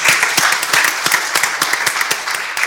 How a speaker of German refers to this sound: Ich finde, an der Stelle dürfen wir auch mal kurz unterbrechen, das ist ein Applaus.